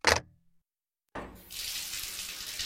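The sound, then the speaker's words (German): A brief clunk, a moment of silence, then a tap opens and water gushes steadily into a sink as someone holds their head under it, a loud hiss with spattering that continues to the end. No one speaks. “Muss erstmal den Kopf unter Wasser halten.”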